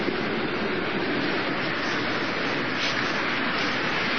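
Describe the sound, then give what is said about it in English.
Ocean waves make a steady, dense roar of rushing water that stays constant throughout, with no distinct breaks between swells and no voices. “From these waves, how these birds catches fish.”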